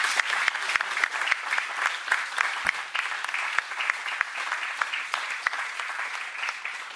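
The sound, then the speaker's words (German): An audience claps steadily for several seconds, a dense, bright patter of many hands with sharp individual claps poking out, fairly loud and even throughout, no voices over it. “Ich würde sagen, wir können auf jeden Fall mal richtig ordentlich klatschen für die tollen Menschen hier vorne.”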